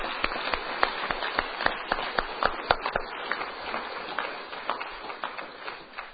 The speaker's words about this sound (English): Let's give all those that are guests a round of applause tonight.